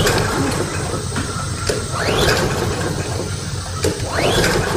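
A lawnmower's pull-start cord is yanked twice in steady succession, each pull a rising mechanical whirr with clicks. The small engine sputters but never catches, fairly loud, with no voices.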